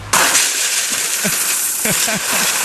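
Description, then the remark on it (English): A dense, continuous rush of pennies being poured into post office totes at a DMV office, a loud hissing cascade of metal that starts abruptly and keeps going, with faint voices murmuring underneath. “Hold on, say again, you were being drowned out by the pennies. Right. That they're, you know, being poured onto or into something.”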